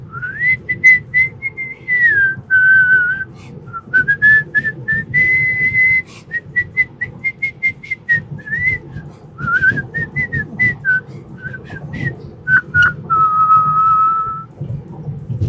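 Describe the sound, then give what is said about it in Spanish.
Someone whistles a continuous, wandering, made-up tango-like melody with sustained notes and quick ornamental turns, fairly loud, over a low background hum, with no talking. “Y silban como parece que son tangos. Pero son cualquier cosa menos un tango existente.”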